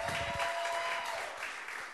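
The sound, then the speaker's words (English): An audience claps steadily for a touring stand-up comic as he is introduced at a comedy show, a dense wash of many hands applauding for a couple of seconds at an even, fairly loud level, with no one talking over it. “Come on, clap for Brendan, clap for Brendan.”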